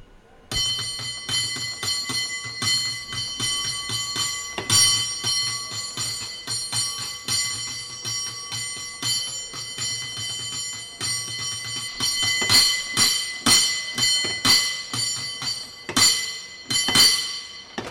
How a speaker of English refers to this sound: That was our friend Val Lupiz displaying his cable car bell ringing skills